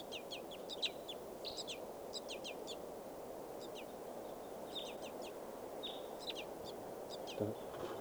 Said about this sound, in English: Back at the wild birds, begging baby. And a wild white gull.